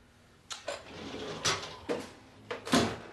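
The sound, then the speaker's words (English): A dishwasher door in a home kitchen opens and shuts on a machine full of dirty dishes, with a series of short clattering clunks and rattles spaced unevenly over a few seconds, quiet, with no voices. “He goes to the dishwasher and finds it full of dirty dishes.”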